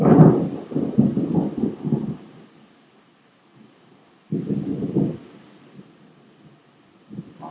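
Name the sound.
thunder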